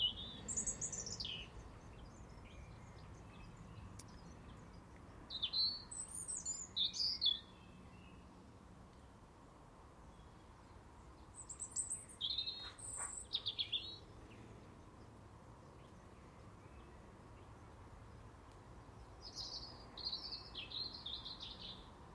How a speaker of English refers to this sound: Bird song appears to be echoing in this type of air. Or is it my ears?